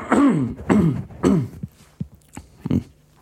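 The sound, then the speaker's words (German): Someone clears their throat several times in a row, a loud series of rough, gravelly hacks followed by a few softer, shorter ones that trail off. “Ich habe irgendwie einen Frosch im Hals, ich muss mich nochmal räuspern.”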